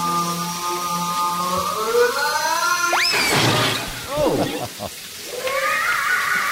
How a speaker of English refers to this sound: Oh dear. It sounds like he was hurt. I like the cartoon whistle.